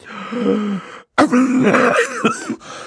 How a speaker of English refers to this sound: Mr. Poe opened his mouth to speak, but had to cough a few times before he began.